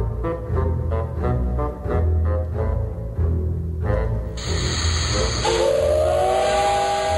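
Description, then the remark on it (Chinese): A steam locomotive at a train station chuffs in a steady rhythm, then a loud, sustained steam whistle shrieks over a bright rush of hissing steam. No one speaks. “在火车站的等待室里，革新会会员很早就在那儿了。”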